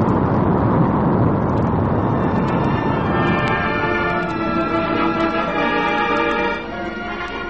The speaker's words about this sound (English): All about you are countless tons of wild, crashing water, creating an inferno that sends up vast clouds of mist.